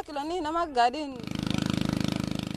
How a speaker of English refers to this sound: The aid agency Oxfam is drilling boreholes here, but the drills often don't hit water.